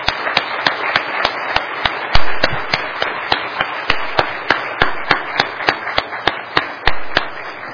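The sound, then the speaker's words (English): A church audience at Zion Baptist Church applauds four college graduates steadily for several seconds, a dense wash of clapping punctuated by sharp, loud individual claps that stand out in a fairly even rhythm. No voices are heard. “Let's give these four college graduates a round of applause.”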